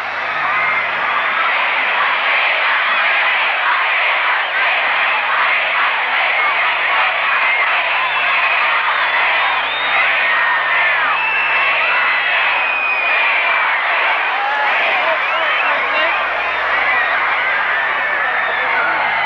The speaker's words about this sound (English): The fans are going mad here. The crowd is seething and they're breaking completely loose. Absolutely out of control.